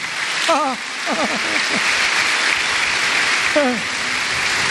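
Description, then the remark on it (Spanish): An audience applauds for Jesus steadily, a dense wash of clapping lasting the whole stretch, with a few short voiced cries rising above it at the start and again toward the end. “Un aplauso a Jesús, ¿eh?”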